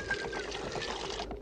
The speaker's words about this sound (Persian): بفرمایید. بگیر، بریز، باز هم بریز، چگرم می سوزد، بریز.